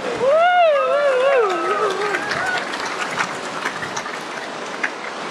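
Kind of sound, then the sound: nature, heavy rain falling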